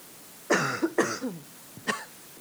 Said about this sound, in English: Well, I'm having a coughing jag.